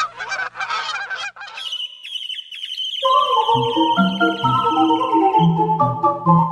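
Bird calls: a rapid series of loud, harsh honks like geese, then a high sustained whistling note joined by layered tonal calls that continue steadily to the end.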